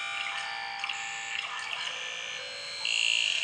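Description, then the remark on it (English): A continuous buzzing drone recorded in a stream, with dense, steady high-pitched tones and scattered clicks and warbles, growing slightly louder near the end. No one speaks. “You know, so it interests me that this buzzing noise comes from, you know, from a stream.”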